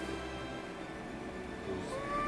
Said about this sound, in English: There she is. Is she under the bed? The fat cutie. I see you, fat cutie. Is she under the bed? Yep. Meow. Meow.